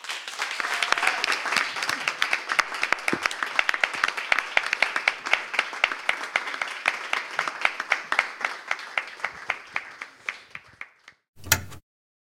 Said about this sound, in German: Ja, hier wird noch geklatscht, bis das letzte Blatt aufgehoben ist. Das ist wirklich sehr schön mit zu beobachten